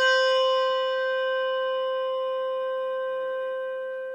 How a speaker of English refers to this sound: Malmark bell, no tang.